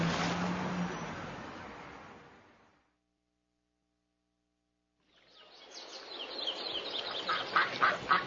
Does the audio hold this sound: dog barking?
no